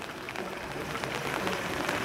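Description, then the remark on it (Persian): Soft, steady drizzle patters down with a constant hiss and scattered fine drops ticking on the wet ground, gentle and even throughout with no voices. “من دیدم هوا خیلی هوای خوبی، نمیدونم میبینید صداش آروم، نم نم بارون رو میشنوید، آروم آروم بارون میزنه، کف زمین خیسه”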